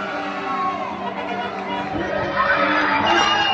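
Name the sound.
crowd shouting and applauding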